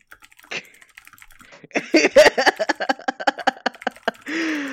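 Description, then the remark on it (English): A quick burst of typing on a computer keyboard, many crisp clicks in rapid uneven succession, fairly loud, starting sparse then speeding up, ending with a short sustained noise. “but they're rapidly typing at me”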